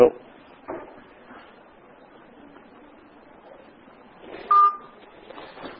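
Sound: phone ringing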